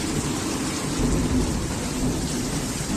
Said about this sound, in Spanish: Lo veníamos avisando y finalmente la lluvia ha llegado a Madrid.